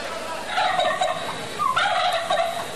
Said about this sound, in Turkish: Oğlum şu hindiye sahip ol, neredeyse çuvaldan atlayacak.